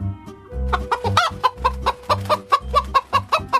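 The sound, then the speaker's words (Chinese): Chickens cluck in a quick, steady run of short bursts, loud, with no one talking over them, as they fly up onto a windowsill. “这时候鸡飞到了窗台上，还有鸽子也拍拍翅膀飞上了屋梁。”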